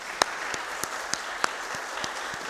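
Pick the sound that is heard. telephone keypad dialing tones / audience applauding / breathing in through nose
audience applauding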